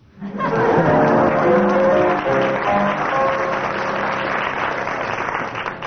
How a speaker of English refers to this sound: Judging from the audience applause, that deserves 6 marks.